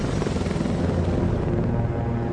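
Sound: helicopter sound effect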